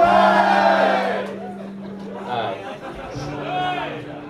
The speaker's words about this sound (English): You really will cheer at anything, won't you?